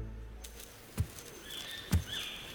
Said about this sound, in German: Dann knackt zwischen den Farnen plötzlich ein Ast. Langsame, schwere Schritte kommen näher.